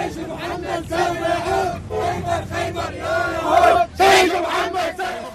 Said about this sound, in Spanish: Estos eran iraquíes eufóricos gritando al lado de los vehículos calcinados del CNI, mostrando pañuelos ensangrentados,